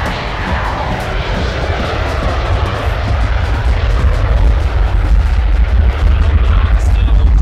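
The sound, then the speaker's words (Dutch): A loud airplane roars low overhead, a dense, rumbling engine noise that fills the whole clip and swells slightly toward the end without any break. “Commandant door zijn megafoon met de toespraak bezig is dat hij een paar keer waarschuwt dat er dan geweld gebruikt zal worden, tendert er weer een vliegtuig langs.”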